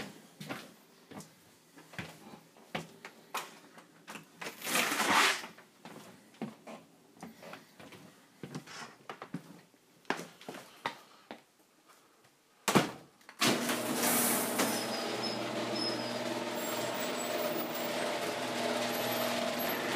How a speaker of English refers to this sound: Okay, that's a fridge.